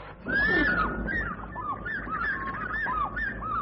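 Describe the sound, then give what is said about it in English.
A great fish eagle gives a loud, ringing series of yelping calls, each note rising and falling in pitch, repeated rapidly over a steady low rumble of background noise. “What's that bird? The great fish eagle.”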